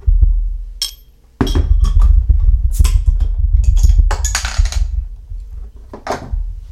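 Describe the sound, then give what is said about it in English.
A container of wheat beer being opened: a series of metallic clicks and handling clatter, a sharp crack, then a brief fizzy hiss, with no talking. “Let's open it up and see what we got.”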